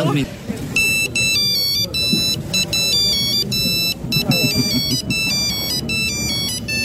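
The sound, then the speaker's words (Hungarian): A retro Nokia 2110 mobile ringtone plays a loud, bright monophonic melody of quick stepped beeps, repeating its phrase for several seconds while voices murmur underneath. “Kis retro csengő hangot.”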